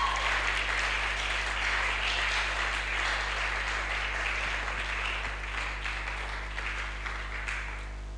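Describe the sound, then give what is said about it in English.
A church audience claps steadily to God during a sermon for about eight seconds, a dense wash of many hands with no speech, tapering slightly toward the end over a constant low hum. “If the word is blessing you, why don't you clap to God?”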